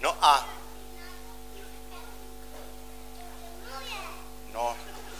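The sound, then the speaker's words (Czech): Children's voices, with a high-pitched squeal at the start and another near the end, faint chatter in between, all over a steady low electrical hum. “Tiše, děti, tiše.”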